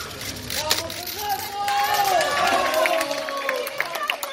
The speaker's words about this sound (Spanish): Había gritos para Fernando Vázquez y vamos, Fernando, sí se puede